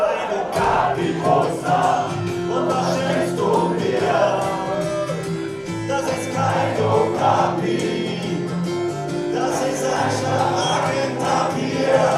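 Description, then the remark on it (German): A large concert crowd sings along loudly and continuously to the singer's old songs, many voices blending into a dense chorus with occasional cheers rising from the mass, heard from within the audience. “Vor allem bei den alten Liedern singt das Publikum begeistert mit.”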